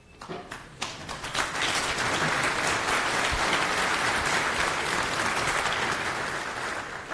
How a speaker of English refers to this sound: Keep clapping, I'm still clipping.